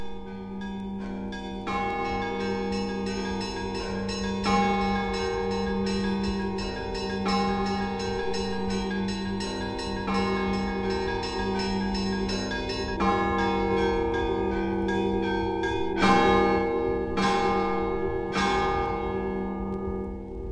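Weekday church bell ringing performed by a single bell-ringer on the middle bells only, several mid-sized bells struck in turn in a steady, repeating pattern over a sustained resonant hum, loud and continuous with no voices.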